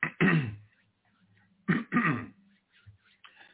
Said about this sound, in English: Clearing my throat because we got a long ways to go.